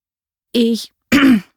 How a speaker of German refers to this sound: Mehrfach musste ich mich räuspern.